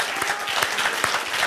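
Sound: audience applauding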